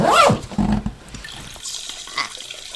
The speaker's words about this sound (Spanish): Pero podemos hacernos pipi aquí encima en el teclado.